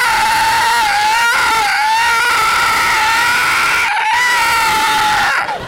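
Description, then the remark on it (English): A voice mimics car tires squealing on the paved, non-concrete roof of a 40-story parking garage at about 5 miles an hour: a loud, sustained, high-pitched screech with a slightly wavering pitch, broken only by a couple of brief pauses over several seconds. “Whatever that's paved, you could be driving 5 miles an hour. It sounds like you're in a chase scene from Chips.”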